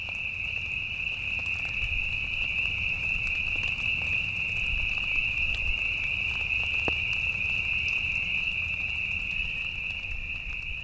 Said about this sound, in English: heard peepers singing in the rain.